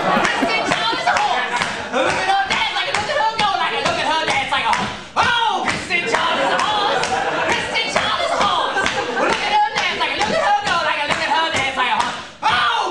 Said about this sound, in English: does this maniacal singing and clapping.